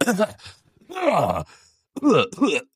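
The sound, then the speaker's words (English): A man vocally imitates an old man coughing: a few loud, raspy, groaning coughs in short bursts with brief pauses between them, voiced and throaty rather than sharp. “Because he just kept coughing every 3 minutes. I mean, like this is all I heard.”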